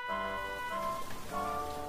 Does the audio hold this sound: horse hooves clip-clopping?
no